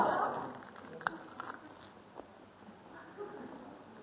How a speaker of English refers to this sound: Chew. Now, I'm just breaking all good manners, right? But I am going to talk with my mouth full.